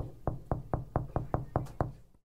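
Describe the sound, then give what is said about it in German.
A quick, steady series of about eight sharp, crisp knocks on a glass pane at the Elbphilharmonie, evenly spaced over two seconds with no voices, then silence. “Und so klingt das Klopfen an der Glasscheibe.”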